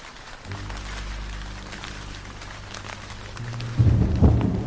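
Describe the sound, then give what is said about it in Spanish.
A thunderstorm rolls in with deep, rumbling thunder beneath steady rain, the low rumble swelling louder near the end as rain patters throughout. “Cuando se terminó de despedir de él, la tormenta se soltó.”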